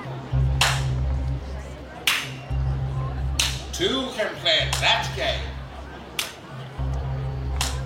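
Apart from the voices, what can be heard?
hand claps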